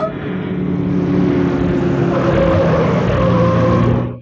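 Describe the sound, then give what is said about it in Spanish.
A car engine roars loudly and steadily at high speed as the car swerves and launches across an embankment toward the sea, a continuous droning rumble that holds for several seconds before cutting off, with no voices. “El auto da un rápido viraje, se lanza a través del terraplén y sale disparado hacia el mar.”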